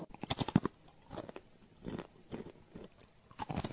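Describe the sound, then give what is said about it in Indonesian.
Crunchy chewing as someone tastes a sample of a small business's food product, a quick flurry of crisp crackling bites at first, then slower, softer munching in irregular bursts with no talking. “Oh iya, ini contohnya Pak, silahkan nyicipi Pak, enak kok.”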